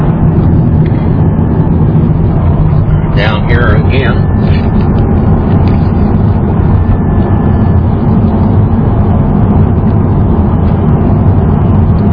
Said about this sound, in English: Cars coming down the road here on this very busy road at the 5 o'clock traffic.